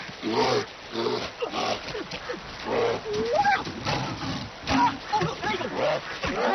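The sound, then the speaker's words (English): Bears splash and thrash through river water at the river mouth as they catch salmon, grunting and growling in short, loud bursts, with churning water filling the gaps between their calls. “At the River Mouth, the bears catch only the tastiest, most tender salmon.”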